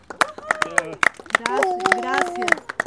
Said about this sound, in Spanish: Y le pedimos un aplauso a la gente por ti.